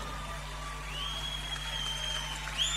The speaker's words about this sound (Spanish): Fuerte el aplauso.